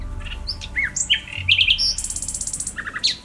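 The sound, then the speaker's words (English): A bird sings close and clear, with a quick run of varied whistles and chirps, then a fast, even trill of repeated notes, over a faint low background rumble. “But there's also the great attraction of trying to sing like one.”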